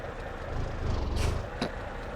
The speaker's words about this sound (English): Put the jake brake on. Coming to a stop, barely need to even touch our air brakes.